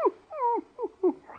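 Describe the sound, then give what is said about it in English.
A dog whimpers and whines in a few short, rising and falling cries, one drawn-out whine followed by quicker yelps, with no talking. “Expect to be a high-rating dog making all that noise, huh?”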